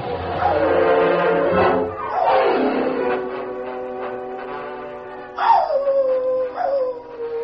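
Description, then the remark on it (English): Tin Cup's dog howls in long, wavering, mournful cries, the pitch sliding down and rising again across several drawn-out wails with no talking. “We didn't get his dog, though.”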